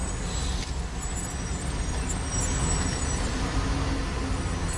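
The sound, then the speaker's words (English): Steady street ambience in New York with people in the street as someone films the World Trade Center at about 8:46, when the first plane hit: a continuous low rumble of traffic and engines with a constant hiss, no distinct voices standing out, holding an even loudness throughout. “I didn't know there was actually a video of the first plane, but this is kind of the natural sound. There's people in the street, and somebody has a camera pointed at the World Trade Center.”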